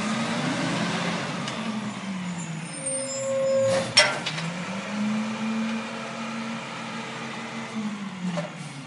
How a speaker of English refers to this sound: A big moving truck pulls up to the house next door to JP's.